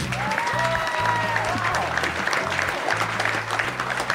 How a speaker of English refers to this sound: Yeah, right now, let's welcome to the stage a special guest for the Q&A section. Please give a roaring round of applause to our good friend from WWE Network, Holy Foley, Noel Foley.